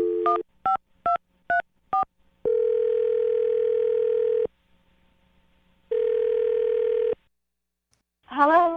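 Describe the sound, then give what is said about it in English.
A rapid series of five short touch-tone beeps as a phone number is dialed to call a woman, followed by two long steady ringback tones with a pause between, then a voice picks up. “Well, I'm going to dial the number right now and see if we can get her on the phone, okay?”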